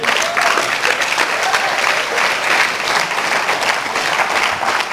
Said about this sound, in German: Ich verstehe den Applaus, dass ihr dem, ich verstehe jeden Applaus immer so, dass ihr dem Wort Gottes zustimmt.